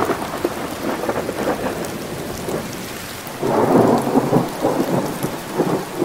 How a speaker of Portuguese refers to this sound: Tome, menino, é chuva boa no sul do Ceará.